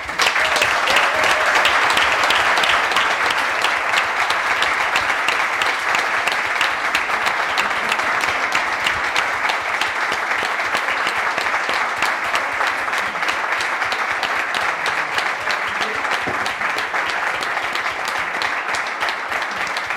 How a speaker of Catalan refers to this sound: Crec que has estat una persona assequible per a tots els grups municipals, per a tots els partits polítics i no només crec que t'has guanyat l'estima de tots, sinó també jo demanaria per tu un fort aplaudiment.